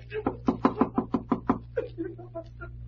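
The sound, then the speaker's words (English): A quick series of about seven or eight sharp raps on the door of the room next door, in a steady, brisk rhythm, followed by faint voice-like sounds, all over a low steady hum. “Well, guess it won't hurt to rap on the door.”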